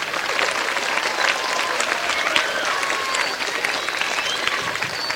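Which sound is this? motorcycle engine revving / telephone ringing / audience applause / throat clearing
audience applause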